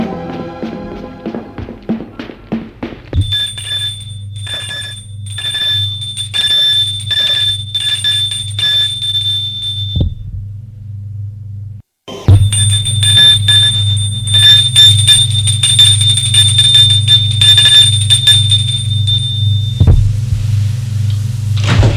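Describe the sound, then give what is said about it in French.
An electric doorbell at an apartment door rings in two long, sustained bursts separated by a brief pause. A breathless man is ringing at his mother's home. The bell is a bright, steady metallic tone riding over a loud low hum, with no voices. “Quart d'heure de course, essoufflé, va sonner chez sa mère.”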